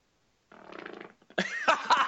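A brief, buzzy fart sputters out of silence, then a louder, rougher burst follows close by. The sound is fairly loud and near, with no talking over it.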